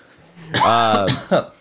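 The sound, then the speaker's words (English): A loud cough, harsh and partly voiced, followed by a short second burst a moment later. No clear speech. “good timing on that cough”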